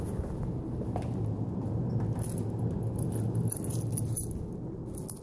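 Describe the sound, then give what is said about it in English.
Keys jangle in short, bright metallic bursts as they are grabbed, scattered over a steady low rumble in the background, with no one speaking. “Do you have the keys?”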